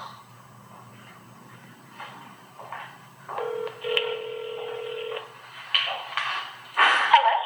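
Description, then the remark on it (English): A telephone being dialed during a board meeting, with a string of short keypad tones and a longer steady tone, then bursts of ringing from the line, with no talking. “I can call her on the phone in case you have any questions.”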